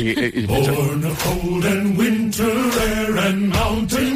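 A deep male chorus sings a steady work song in unison, the first song of the Frozen film soundtrack, punctuated by rhythmic, rasping strokes of ice being sawed by men cutting ice about once a second, loud.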